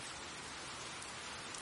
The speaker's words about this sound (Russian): Кажется, сейчас будет небольшой дождик.